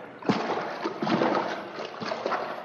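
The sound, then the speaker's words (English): Water splashes and sloshes as someone goes into the water in the dark, with irregular bursts of splatter over about three seconds and a steady watery churn between them. “Well, here we go, into the water.”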